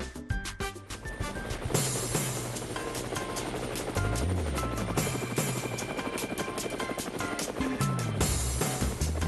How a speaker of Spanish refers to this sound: Bueno, amigos de Cuba, regresamos a Levántate Cuba y, por supuesto, las aspas del helicóptero nos indican que vamos a viajar y, por supuesto, vamos a hacer un viaje